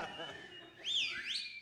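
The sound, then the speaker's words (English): A person whistles a short, clear tune with sliding pitch that swoops up and down for under a second, after a brief murmur of voice. “Can you whistle?”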